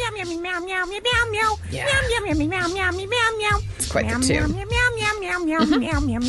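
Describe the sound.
A run of drawn-out, wavering meows, loud and overlapping almost without pause, apparently a human voice imitating a cat rather than an animal.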